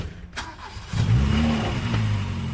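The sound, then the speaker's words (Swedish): A car engine cranks and catches, then settles into a steady, rising hum as the car pulls away, driving off toward Östersund, fairly loud, with no voices. “Åke hoppar in i bilen, mamma sambo, kör iväg mot Östersund.”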